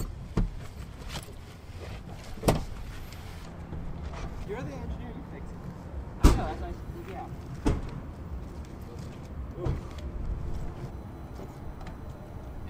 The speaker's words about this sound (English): My door's jammed.